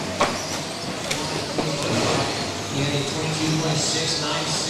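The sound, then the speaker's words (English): Small two-wheel-drive, tenth-scale off-road RC buggies, controlled by remote, race with motors whining and buzzing continuously, their pitch wavering, with occasional sharp clicks and knocks and indistinct voices in the background. “today I'll be racing my two-wheel drive buggy. It's almost as if it's like an off-roading car, just shrunk down to a tenth of the size.”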